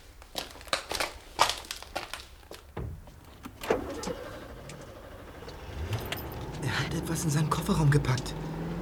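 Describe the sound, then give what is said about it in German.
A metal canister topples and clatters with a run of sharp, hollow clanks and rattles, followed by a swelling rumble like a vehicle engine. “Das war der Kanister.”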